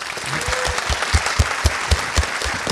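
An audience applauds steadily, a dense wash of clapping with a regular pulse of louder, heavier claps roughly four times a second, keeping an even loudness throughout with no talking.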